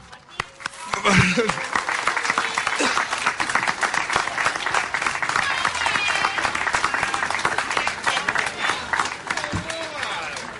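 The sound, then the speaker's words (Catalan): Loud, sustained applause from an audience, a dense rapid patter of many hands clapping that swells after the first second and continues steadily, with a few voices calling out over it. “Demano un fort aplaudiment, sisplau.”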